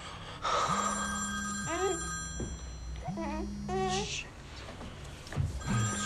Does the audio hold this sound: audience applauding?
no